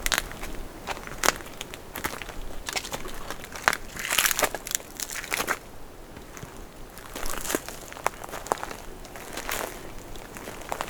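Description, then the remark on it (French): Footsteps crunch over dry leaves, gravel and twigs on a cracked path of dried ground at a steady walking pace, each step a crisp, crackling burst, with no voices present. “Nos pas sur le chemin craquelé.”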